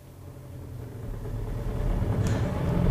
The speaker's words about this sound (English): There's a car coming up behind us, Inspector. Lush. It's our old friend Clarence Godden on his weekly run. I'll wave him on.